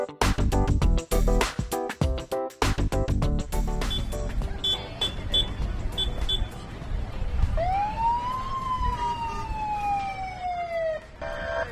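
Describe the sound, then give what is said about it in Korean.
Emergency vehicle sirens wail loudly, starting with a choppy burst of blips and horn blasts, then a long rising and falling siren sweep over busy outdoor crowd noise, at a touch-a-truck event at Chantilly Library in Fairfax County. “네, 여기저기서 울리는 여기저기서 울리는 사이렌 소리.”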